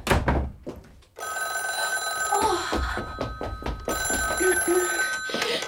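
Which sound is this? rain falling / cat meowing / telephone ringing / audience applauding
telephone ringing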